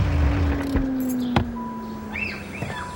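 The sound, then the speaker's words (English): A convertible car's engine rumbles low and settles into a steady idle as it pulls up to the curb in a residential neighborhood, with a few sharp clicks and birds chirping softly in the background. “Pulls up to the curb”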